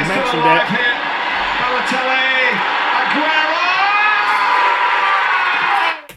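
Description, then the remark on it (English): A football crowd roars in celebration of Aguero's goal, a loud, sustained wall of cheering and shouting that holds steady for about six seconds before cutting off abruptly, with a voice briefly heard over it. “Yeah, but I will always remember Aguero's goal from last season.”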